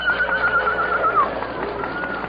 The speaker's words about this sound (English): Footsteps approaching on horseback. It is the cavalry.